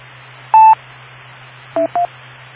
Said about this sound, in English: my phone's ringing.